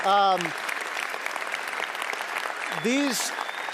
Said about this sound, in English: We have a team here at Riv that has been making these every week, and I think you should clap for them because they're crazy.